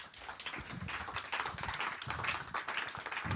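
A crowd applauds steadily for a few seconds, a dense crackle of many hands clapping at an even, fairly loud level with no voices standing out.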